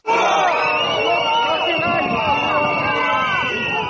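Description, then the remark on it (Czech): Several hundred lawyers from Belgrade, Zaječar, Valjevo, Jagodina, Novi Sad, Niš and Ruma march in protest through central Belgrade streets on Tuesday, 1 June, against a draft civil procedure law: a loud, steady roar of many overlapping voices with shouts rising out of the mass, sustained without pause throughout. “Nekoliko stotina advokata iz Beograda, Zaječara, Valjeva, Jagodine, Novog Sada, Niša i Rume u protestnoj šetnji centralnim ulicama Beograda u utorak 1.”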